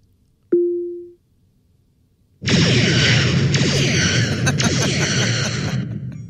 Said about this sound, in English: How about this? Echo, fire photon torpedoes.